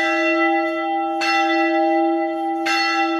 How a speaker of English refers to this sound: The bells of Al-Tahira Church ring out across Mosul, a symbol of the rebirth of the old city that was left devastated 8 years ago after the battle to drive ISIS out.